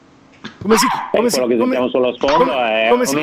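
A dog in the background lets out a run of barks and drawn-out yelping whines in three close, fairly loud bursts, each with a strained, high-pitched tone.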